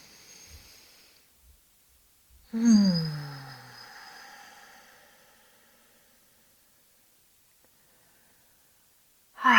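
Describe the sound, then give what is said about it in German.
Deep, slow breathing during a guided breathing exercise: a soft, airy inhale letting the belly expand outward, then a long, audible exhale that slowly fades, followed by a pause before the next breath begins. “Noch 2-mal so, atme ein, lass die Bauchdecke nach außen wölben.”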